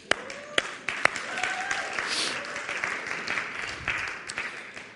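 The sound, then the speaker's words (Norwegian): A crowd applauds steadily for several seconds, dense overlapping claps with a few sharper individual claps standing out at the start, holding at a fairly even loudness before thinning slightly. “Ja, det grunn til å klappe.”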